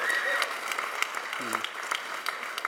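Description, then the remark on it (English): A crowd at Christian Assembly applauds steadily for a pastor being introduced to speak, a dense wash of many hands clapping at an even level, with a few brief tonal voice sounds rising through the noise partway through. “you can applaud that.”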